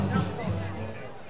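Steady crowd chatter fills Roger Dean Chevrolet Stadium during a baseball game between the Tortugas and the Cardinals in the bottom of the seventh inning. It is a dense murmur of many overlapping voices with no single words standing out, holding at an even, moderate loudness throughout.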